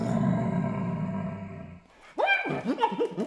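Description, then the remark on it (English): A flute played to mimic an animal's roar: a rough, growling sustained tone for almost two seconds, a brief pause, then a burst of swooping, yelping calls, fairly loud. “And then, of course, you know, kids always love animal sounds.”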